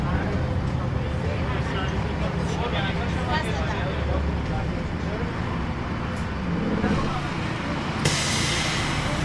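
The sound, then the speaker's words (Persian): A city bus rumbles along steadily for several seconds, engine and road noise filling the space, then a sharp, loud hiss of air brakes bursts out near the end. “مژگان سوار اتوبوسه.”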